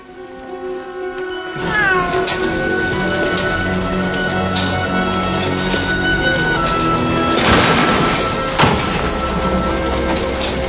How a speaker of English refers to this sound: What's with the cat? Ah, the cat. Yeah, well, there's a problem with the cat.